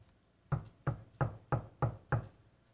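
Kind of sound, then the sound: household object, knocking on a door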